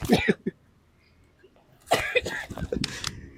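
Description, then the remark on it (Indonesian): A quick pair of rough coughs, a short pause, then a longer run of harsh, breathy coughing with some throaty vocal sound, fairly loud and with no talking. “Ya cukup sampai sini lah, makasih banyak buat 2 episodenya, udah batuk-batuk nih.”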